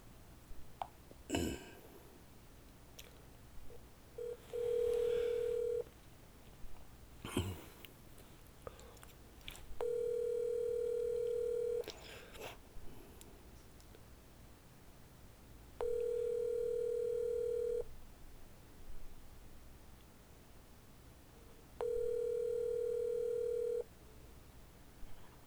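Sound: outgoing telephone call ringing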